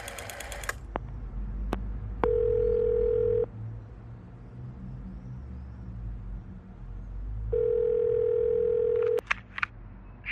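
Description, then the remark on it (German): A steady telephone ringback tone sounds twice in long, even bursts of about a second each, separated by a pause, over a low rumbling background with a few brief clicks, as a phone call is placed. “Ich werde uns schon mal telefonisch ankündigen.”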